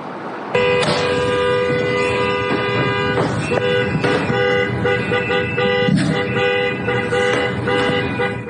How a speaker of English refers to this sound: The video appears to show Good's SUV partially blocking the street, honking her horn